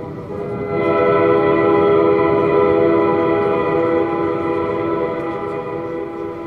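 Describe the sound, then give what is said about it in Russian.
A deep, sustained horn blast drones steadily for several seconds, loud, with rich layered harmonics and a low rumbling undertone, no voices present. “Густо загудел гудок.”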